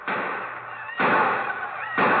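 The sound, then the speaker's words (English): Three loud gunshots, fired by men of Osage setting out on the Cherokee run, ring out about a second apart, each a sharp bang trailing into a rumbling decay that fills the gap before the next. No voices are heard. “The excited shots and yells of the few other men of Osage, who also had decided to make the Cherokee run.”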